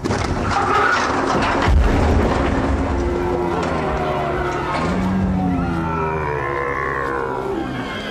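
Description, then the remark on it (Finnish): Loud, ear-splitting mechanical clanking and rasping from a 30-metre-long giant robot stomping out of a ship, with a heavy thud early on and low groaning, roaring tones grinding on continuously for about eight seconds, no voices. “Ja hetken kuluttua korvia raastavan kolinan ja rohinan säestämänä aluksesta talloi ulos 30 metriä pitkä robotti.”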